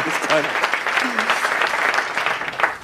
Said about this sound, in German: Moment, da klatscht schnell, ja. Ja, lass die Leute mal. Hennes, dein Applaus.